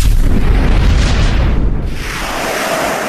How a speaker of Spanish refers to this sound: Al rato se hincha como un globo. Explota.